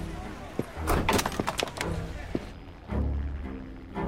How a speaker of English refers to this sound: As she slams the door, her cell phone drops to the pavement.